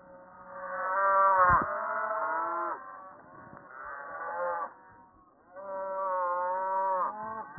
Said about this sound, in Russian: Вот хозяйки коровушек на водопой пригнали, на речку, как и 102 года назад это делали первые поселенцы.